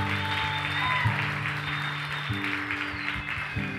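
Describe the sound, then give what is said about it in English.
A large crowd at a Christmas Eve church service claps steadily and continuously for several seconds for the band after a song, a dense wash of applause with sustained keyboard or organ chords holding underneath. “Let's give the band a round of applause for Amen.”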